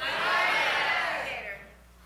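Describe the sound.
A church audience of many voices shouts at once, each calling out a favorite name for God or Jesus on a count of three, in a loud, jumbled burst that holds for over a second before trailing off into quiet.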